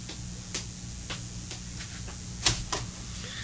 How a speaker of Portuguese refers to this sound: Oh, alguém batendo na porta? Quem será? Ah, deve ser a criada.